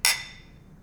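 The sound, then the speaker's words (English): A single bright clink of glasses touching in a toast, sharp, with a shimmering ring that fades quickly. “All right, so orange clove, here we go. Cheers.”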